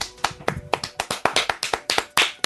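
A quick run of sharp hand claps, roughly a dozen in a couple of seconds, with a slightly uneven rhythm and fairly loud, crisp slaps; no one is speaking.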